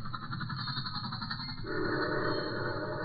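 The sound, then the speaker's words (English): A troop train carrying 1,000 soldiers rumbles steadily past with a continuous low roar, and a sustained whistle-like tone swells in partway through, growing slightly louder toward the end. “There goes the troop train.”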